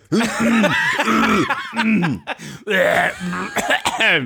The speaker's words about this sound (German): Ja, jetzt räusperst du selber